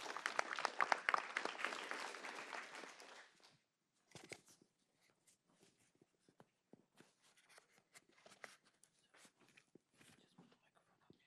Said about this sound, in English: Okay, let's give Bill one more round of applause.